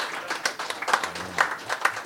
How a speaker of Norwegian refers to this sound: Applaus.